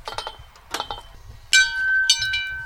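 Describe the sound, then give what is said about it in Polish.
A few metallic clinks and rattles, then the bell at the end of a Ninja Warrior obstacle is struck twice to signal the obstacle has been completed, its bright ringing tone sustaining and slowly fading between and after the strikes. No voices. “Tak, na każdym biegu właśnie jest dzwonek, który informuje, że doszliśmy do końca przeszkody, ona jest zaliczona, możemy biegnąć dalej.”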